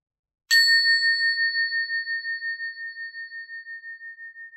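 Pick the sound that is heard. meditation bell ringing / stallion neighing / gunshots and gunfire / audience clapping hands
meditation bell ringing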